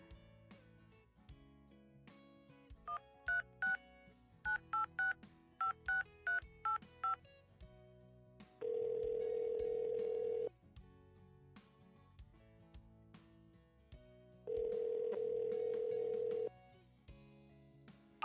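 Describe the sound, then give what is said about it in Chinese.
A rapid string of about a dozen telephone keypad beeps as a phone call is placed to a boyfriend, then two long, buzzing ringback tones separated by a pause, all fairly clear over a soft background. “再给亲爱的他打个电话吧。”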